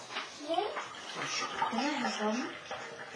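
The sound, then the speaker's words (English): Water pours steadily from a jug into a cup, a continuous splashing stream lasting a few seconds, while a voice talks over it. “God pours out his blessing. That's the jug. And into our lives, which is the cup.”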